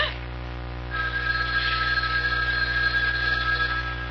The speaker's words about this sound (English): It was the house phone. Not my private line with the unlisted number. Only two people ever knew that number.